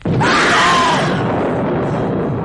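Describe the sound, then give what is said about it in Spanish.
A sudden booming thunderclap breaks out and rolls on as a dense, loud rumble, while a high, wavering scream cuts through it for about the first second. “De repente, como rompiendo pausa y silencio, se escucharon un trueno y un alarido.”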